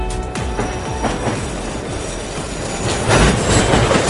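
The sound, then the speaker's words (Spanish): Trains in Paris, France roll past with a steady rumble, high metallic wheel squeals and rhythmic clatter over the rails, growing slightly louder toward the end. No one speaks. “Sonido de trenes en París, ahí es donde está la noticia.”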